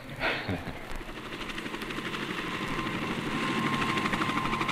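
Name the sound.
helicopter engine and rotor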